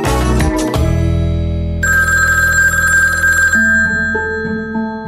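A telephone in a kitchen rings with a loud electronic ringtone, sustained melodic tones shifting pitch every second or two, heard alone with no talking.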